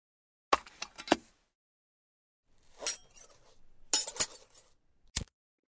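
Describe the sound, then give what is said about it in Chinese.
A lighter held in someone's left hand is handled with a few sharp metallic clicks, a soft scraping rustle, then a quick burst of rattling clicks and one final snap. No one speaks. “你应该听出来了吧？我的左手正拿着一个打火机”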